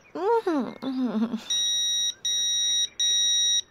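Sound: phone message notification beep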